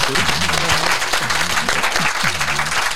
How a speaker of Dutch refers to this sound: Nogmaals, applaus voor